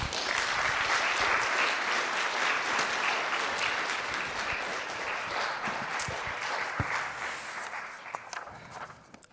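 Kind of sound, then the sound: crowd, audience applause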